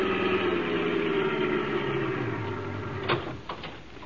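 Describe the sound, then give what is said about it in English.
A car engine hums steadily as it drives down the road to old Mayor Hoskins' ice house, its pitch slowly dropping as it slows, followed by a couple of sharp clunks near the end, like a door or latch. “We jumped into a car and drove over there.”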